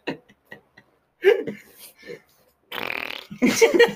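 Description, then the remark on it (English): A wet, buzzy blown raspberry made with the lips to imitate a fart, loud, sputtering for about a second after some brief murmured voices. “That was a raspberry you just did.”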